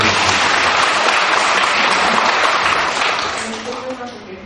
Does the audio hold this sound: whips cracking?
no